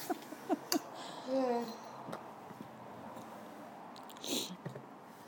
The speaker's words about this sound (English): So, it's nice and peaceful at the moment. Apart from Elkie's bell, which you can hear.